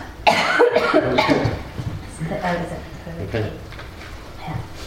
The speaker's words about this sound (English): I'm just going to take this chance to have a bit of a cough.